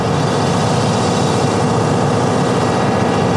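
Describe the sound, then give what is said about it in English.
Several existing oil well pumps in the Big Cypress National Preserve in the greater Everglades, pumping day and night, run with a steady, loud mechanical drone, a continuous engine-like hum with a low rumble beneath it and no pauses or voices. “About 25 miles from the newly proposed wells, several existing wells pump away day and night.”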